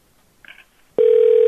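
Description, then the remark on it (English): A telephone rings: a short, faint electronic chirp, then a loud, steady buzzing ring tone that starts abruptly and keeps going to the end. No one speaks. “Oh, it's ringing.”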